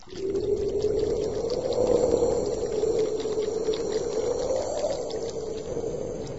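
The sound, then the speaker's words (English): A steady, continuous roar of rushing water pouring into the mouth of a very large drain, loud, holding an even churning intensity throughout with no voices. “Up ahead, he could hear a roar.”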